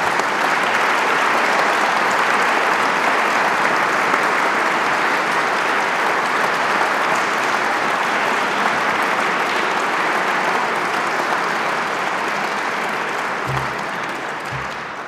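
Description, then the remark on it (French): Sustained applause from a large audience for prize-winning historians at an award ceremony, a dense, steady roar of clapping that holds for about fifteen seconds before easing slightly at the end. No one speaks over it. “Je prie ces lauréats historiens de bien vouloir se lever et vous-même de les applaudir.”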